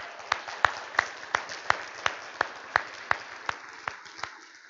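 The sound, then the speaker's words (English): Applause for mothers on Mother's Day, in a steady, even rhythm: about a dozen sharp, crisp claps spaced evenly over a soft background hiss, fading slightly toward the end. No one speaks. “Round of applause to my mothers.”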